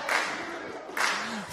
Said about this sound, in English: 3, 2, 1, and the winner is the Blue Team! All right, Blue, give us a quick cheer. Give us a quick cheer while they take that away.